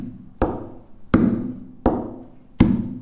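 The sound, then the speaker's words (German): Four crisp knocks on a tabletop at a slow, even pulse, alternating a lower, duller tap with a brighter, higher one. Each strike rings briefly before the next, with no voices. “Indem ich das Ursprünglichste nehme, das, was ich vorhin gerade schon sagte, eigentlich den Urimpuls, den wir haben, einen tiefen und einen hohen Klang, wie das kann man selbst auf dem Tisch realisieren.”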